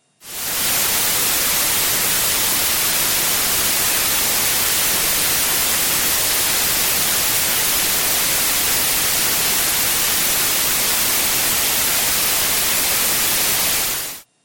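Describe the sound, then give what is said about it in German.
A steady, loud hiss of white noise runs unchanged for about fourteen seconds, bright and even across the whole range, starting and stopping abruptly with no voices. “So hört sich weißes Rauschen an.”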